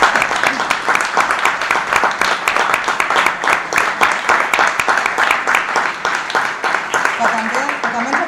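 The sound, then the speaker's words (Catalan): A crowd applauds the young members of the JNC steadily for about eight seconds, a dense, even wash of many hands clapping at a constant loudness. Voices murmur faintly underneath, and someone speaks near the end. “especialment molt, molt contenta i feliç dels que estan una mica allà baix amagats, de comptar amb els joves, amb la JNC, que avui ens acompanya, que tenim un superplanter, els podem aplaudir, si tant per moment.”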